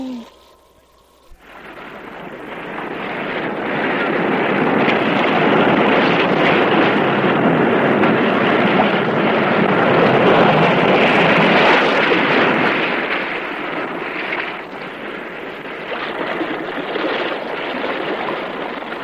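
restless sea waves

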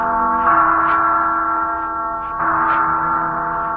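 bell ringing

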